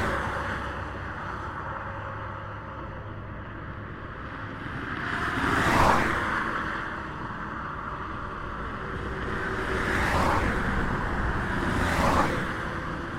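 Cars speed past on the A14, a busy road, each one a loud whoosh that swells and fades, three passes in all over a steady rumble of traffic and wind.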